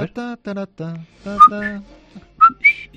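Someone whistles a short tune: a few bright, sliding high notes alternating with lower voiced, hummed-sounding phrases, moderately loud, over about three seconds.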